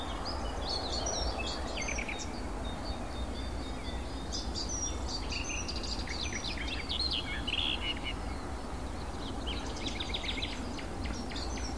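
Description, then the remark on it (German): A songbird sings in rapid, hurried bursts of bright, varied chirps and trills, fairly loud, over a steady background of low rumble and rustling. “Dann ist es sehr hektisch vorgetragen und laut.”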